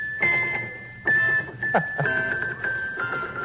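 Small bells jingle in a handful of uneven shaken bursts, each leaving a bright, steady ringing tone that hangs between shakes. No one speaks.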